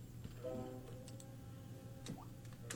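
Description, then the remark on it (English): A few sharp mechanical clicks of a Japanese slot machine's reels being stopped by the player, spaced irregularly over a steady electrical hum and soft electronic tones from the machine, with no voices. “Japanese machines are different than American machines in that you stop the reels rather than the reels stopping automatically.”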